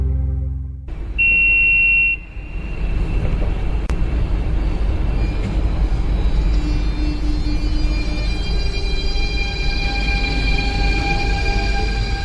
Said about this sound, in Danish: Så kører toget. S-toget. Nå, det er S-toget.